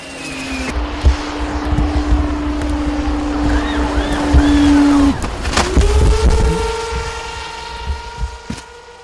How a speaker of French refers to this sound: À 145 km de là et 3 heures de route de la capitale, 25 minutes plus tard, le drone apparaît à travers les nuages, au-dessus de l'hôpital de Kiré, à la frontière tanzanienne.